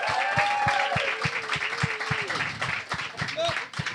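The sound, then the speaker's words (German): Audience applause at a stand-up comedy show as a comedian is brought on stage, with steady, rhythmic clapping that keeps an even beat for several seconds, joined by voices cheering and a sustained wavering whoop over the claps. “Riesengroßer Applaus.”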